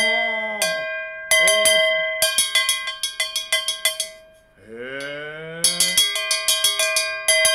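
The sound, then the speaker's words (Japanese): A small metal hand gong (a bell) is struck on the inside, at the rims and centre, rather than on its outer face, the way chindon-ya street musicians play it. It gives bright ringing metallic hits in quick rhythmic bursts that sustain and overlap, with brief pauses and a short spoken interjection between runs. “本当は表の方を、底を叩くんですけど、はい、まあ、鎮土屋さんなりが、こうちょっと、この内側をこうやって、これ、すりがないっていうんだ。”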